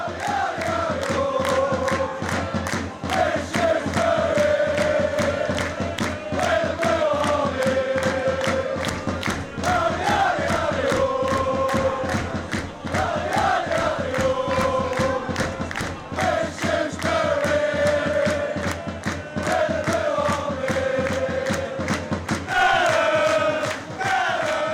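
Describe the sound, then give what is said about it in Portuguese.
A large crowd of Shrewsbury Town football fans in England sings a repeating melodic chant with drums, loud and continuous for the whole stretch, the tune rising and falling in regular cycles with a dense rhythmic roar underneath. “Mas um sobe som só de alguns cantos da torcida do Shrewsbury.”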